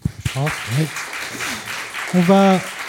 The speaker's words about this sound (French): Merci, on peut vous applaudir.